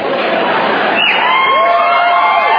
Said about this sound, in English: Dude, I'm asking you on stage. You don't have to stand there going, woo! Come on over.